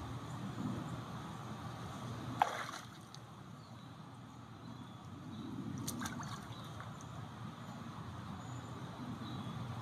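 Quiet, steady water sloshing and lapping in a pool, with a couple of brief splashes as a young man pulls himself out of the pool, leaving his legs in the water. No voices, just soft watery movement throughout.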